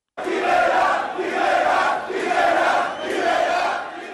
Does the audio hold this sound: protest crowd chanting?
yes